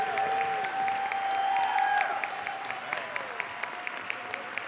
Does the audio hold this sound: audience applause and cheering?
yes